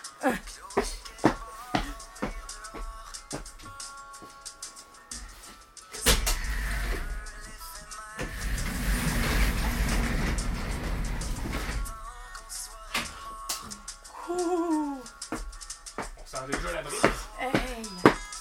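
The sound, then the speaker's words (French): A motorized garage door closes with a steady mechanical drone lasting a few seconds, surrounded by scattered clicks, knocks and brief bits of people talking before and after. “Est-ce qu'on ferme la porte de garage, oh, les amis?”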